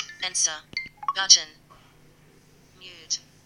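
A Series 3 smartwatch's incoming call tone as it is called from a landline: a quick series of bright, electronic chirping notes in the first second and a half, a pause, then one more short tone near the end. The watch is also vibrating.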